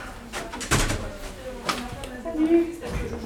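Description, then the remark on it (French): A door being opened, with a couple of sharp clunks of the handle and latch, while people talk indistinctly in the background. “Tu veux que je t'aide ? Que tu ouvres la porte ?”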